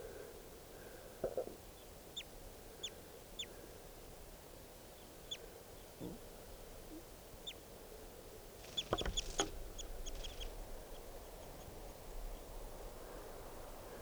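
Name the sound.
wild birds calling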